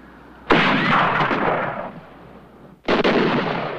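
sniper gunfire

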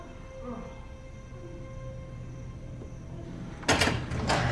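door being opened

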